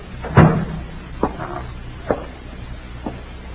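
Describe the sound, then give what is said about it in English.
A door is pushed shut with one solid thud, followed by three softer clunks spaced about a second apart. There is no talking. “Let me close the door.”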